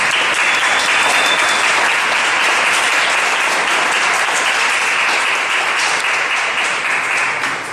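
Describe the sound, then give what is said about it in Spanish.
A crowd applauds a businessman loudly and steadily, a dense wash of many hands clapping that holds for several seconds and starts to thin slightly at the end, with no voices over it. “Así que vamos a darle un fuerte aplauso al empresario”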